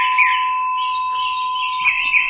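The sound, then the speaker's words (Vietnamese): A Korean bell, sent by a Buddhist follower in Korea, is struck and rings out with a steady, sustained metallic tone, fairly loud, humming evenly for the whole moment with no voices. “Giờ đây là tiếng chuông của Hàn Quốc đây.”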